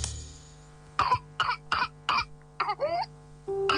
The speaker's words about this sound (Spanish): La tos convulsa es una enfermedad contagiosa que afecta las vías respiratorias. Se caracteriza por una tos intensa que puede durar semanas y, en casos graves, causar neumonía, convulsiones o incluso la muerte.